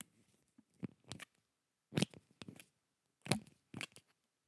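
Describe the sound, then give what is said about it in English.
A pen cap is pulled off and snapped back on several times, producing sharp clicks in uneven pairs with brief pauses between them, and no voices. “Just opening and closing a pen.”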